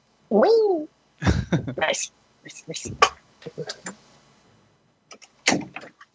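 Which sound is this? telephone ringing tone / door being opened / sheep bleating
door being opened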